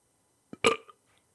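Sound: burp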